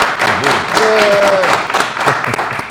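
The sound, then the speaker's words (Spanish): An audience applauds in a steady, dense patter of clapping for a few seconds, with a brief rising whistle or cheer and scattered voices mixed into the noise. “¡Aplausos para aquella gente!”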